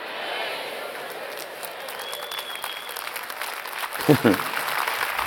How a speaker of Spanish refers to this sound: Un aplauso al Señor, por favor.